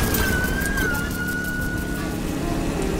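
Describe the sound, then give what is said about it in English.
Two police cars pass with sirens wailing over heavy traffic rumble, the single tone holding and gliding slightly downward before fading, partly buried in the loud road noise. “Two police cars again.”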